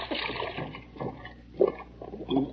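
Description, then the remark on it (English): A turtle slides and splashes into a shallow, icy brook, followed by a few rough sloshing bursts and gurgles as the water settles, with no talking. “if I were to give you a little push, you'd slide right into the water.”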